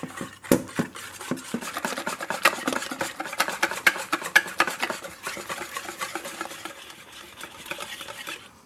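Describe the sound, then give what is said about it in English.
A whisk clatters rapidly against a bowl, blending flour batter until smooth and frothy, a dense run of sharp metallic ticks and scrapes through thick batter, steady and fairly loud for several seconds with no talking. “Now what you're going to have to do is use your whisk to blend everything mm-hmm. until it's really smooth and frothy.”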